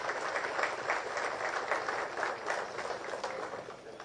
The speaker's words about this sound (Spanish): Ciudadana ilustre del Departamento de Concepción, a su excelencia, Ministra de Obras Públicas y Comunicaciones, Ingeniera Claudia Centurión. Fuertes los aplausos, señoras y señores.